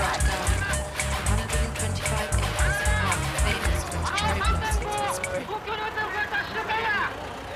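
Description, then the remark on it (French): A car's engine rumbles low for several seconds, then fades away. People talk and call out over a busy outdoor crowd throughout. “Attention à la voiture.”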